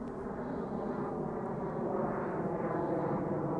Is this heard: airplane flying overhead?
yes